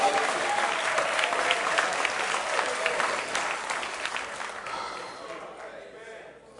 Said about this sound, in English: If you want to clap your hands, say, excuse me there, Roman soldier. I need my other hand to praise God.